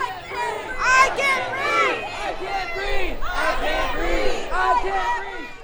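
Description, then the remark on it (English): A loud crowd of protesters on the steps of Wilmington City Hall, protesting racism and police brutality, chants and shouts together in rising and falling bursts, the pitched calls repeating steadily over a constant roar with no quiet gaps. “There have been signs, chants, and impassioned speeches.”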